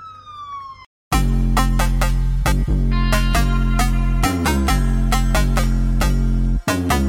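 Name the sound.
police car siren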